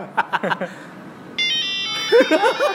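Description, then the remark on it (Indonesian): After brief talk, a phone being switched on plays a bright electronic Nokia melody of steady, high tones, the tune continuing as people start chatting over it again. “Ini apa tapi kok suaranya Nokia tuh?”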